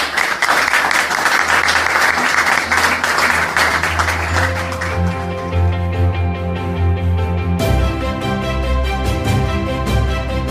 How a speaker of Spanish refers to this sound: Y quiero agradecerle y quiero pedirle un aplauso para él. Muchas gracias a todos.